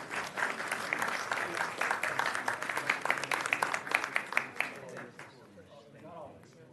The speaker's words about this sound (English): So put a round of applause for our county.